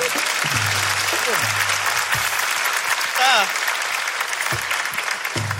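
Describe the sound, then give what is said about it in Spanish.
An audience claps steadily for several seconds for a female participant on a show, a dense, even patter of many hands, with a few voices calling out and a brief rising cheer over the applause. “Un aplauso para ella.”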